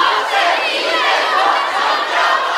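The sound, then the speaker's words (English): A large crowd of young live-streaming hopefuls in a hotel in Yiwu, China, learning selling techniques, chants loudly together in unison, "We are super live streamers", a dense, sustained roar of shouting that holds steady for a couple of seconds. “We are super live streamers, they chant.”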